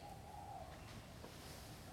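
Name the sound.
bird calling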